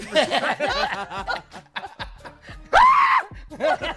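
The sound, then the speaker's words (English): Bursts of laughter give way to a single loud, short scream from Steve Harvey, high and strained, followed by more chuckling. “I love the Steve scream.”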